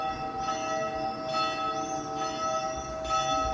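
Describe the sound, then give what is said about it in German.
Church bells ring steadily on a quiet summer evening in Egliswil, a village of about 1,300 inhabitants, their sustained overlapping tones recurring about every second with a rich metallic hum, with no voices. “Es ist ruhig, ausser der Kirchenglocken und den Vögeln hört man nicht viel.”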